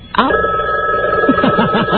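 A telephone bell rings steadily and loudly, a sustained metallic trill, while a voice speaks briefly over it toward the end.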